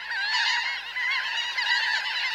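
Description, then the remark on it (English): A dense chorus of laughing gulls calling over one another, a steady wash of harsh, nasal, high-pitched cries that stays loud throughout, with no voices. “Some gulls, like these laughing gulls, and also the Bonaparte's gull, add dapper black or brown hoods for the breeding season.”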